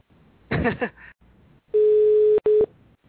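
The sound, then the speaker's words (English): A brief bit of talking, then the tone of a call being placed to a cell phone number: a steady, loud, mid-pitched hum held for under a second, a short gap, and a shorter second burst. “Well, this is his cell phone number because it's his voice on the voicemail, so just about him answering the phone.”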